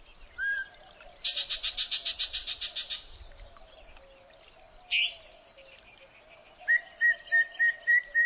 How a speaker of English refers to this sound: After a long and careful scan of the willow treetops, your eyes come to rest on the mystery singer, a bird with a bright yellow chest and a green face marked with what look like bold white spectacles. You've just spotted a yellow-breasted chat.